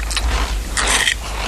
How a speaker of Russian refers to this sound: Это она жует. И запивает самчиком. Самогоном запивает. Или это молоко? Я не вижу. Ну, мутное что-то. Наверное, самогоном. Лук ест. Или это яблоко?